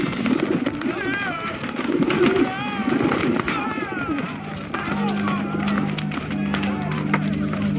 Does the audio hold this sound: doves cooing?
yes